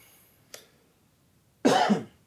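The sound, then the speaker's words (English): A single loud cough from a man coughing into his hand, a harsh, breathy burst, preceded by a faint short click or intake moments earlier, with no talking. “He coughed. Into his hand.”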